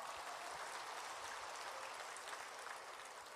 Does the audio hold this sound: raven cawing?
no